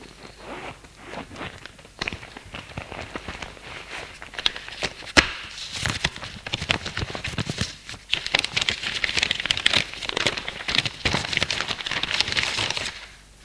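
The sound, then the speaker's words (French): Steady rustling and crinkling of paper with a few sharp clicks and shuffles as a doctor seated at a desk takes his papers from his bag, growing busier in the second half as sheets are pulled out and handled. No one speaks. “Il prend dans son sac ses papiers.”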